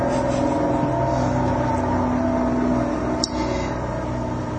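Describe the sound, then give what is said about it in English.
A lorry drives past outside: a steady, heavy engine rumble with a low droning hum that fills the whole stretch, fairly loud, with no voices. “Lorry time.”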